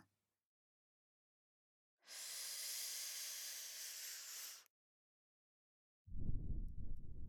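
A long, steady breath is blown into the ear, a loud airy hiss lasting a few seconds. After a brief silence, a lower, rougher rush of breath begins.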